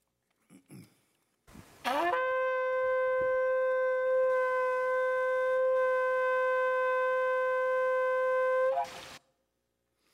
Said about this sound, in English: We see the shofar, which is a ram's horn used as a trumpet, being blown in verses 1 and in verses 15. And we have just a short video of what that looks like, what it even sounds like.